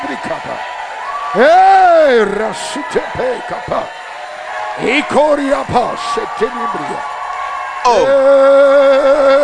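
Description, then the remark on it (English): An audience shouts and cheers loudly in answer to a preacher's call to shout for the open door, many voices overlapping in rising and falling yells that swell, dip briefly, then surge again into sustained, high-pitched whoops. “Let me hear you shout for the open door.”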